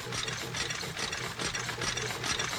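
A fire truck red taffy machine runs steadily, spitting out 145 pieces a minute, its wheels and gears making a dense clattering whir with a low hum underneath and a regular pulsing rhythm, fairly loud and with no voices.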